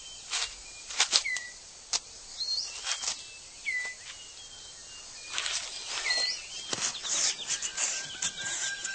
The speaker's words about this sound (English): That leaves the male six-plumed bird of paradise with time to concentrate on other matters, like tidying up his display area.